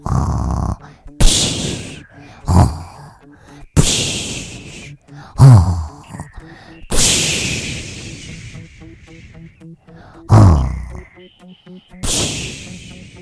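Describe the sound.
A voice imitates a wolf snoring: a steady series of about seven loud, breathy snorts and rasping exhales, with short pauses between them and no talking.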